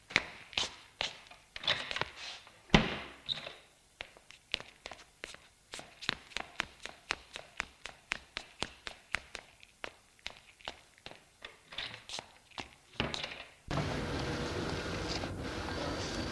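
Brisk, evenly spaced footsteps of a man leaving are punctuated early on by one loud slam as he shuts a door hard behind him. The steps keep going as he walks out into the street at night, then give way to a steady wash of outdoor background noise.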